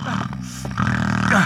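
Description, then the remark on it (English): Loud, rasping snoring from a sleeping Italian man: a long throaty snore followed by a second drawn-out, rumbling one, with no other sounds. “That infernal snoring.”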